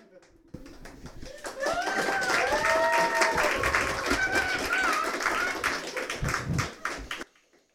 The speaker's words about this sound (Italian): E tutti applaudono.